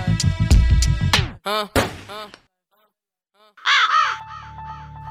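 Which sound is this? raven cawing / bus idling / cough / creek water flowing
raven cawing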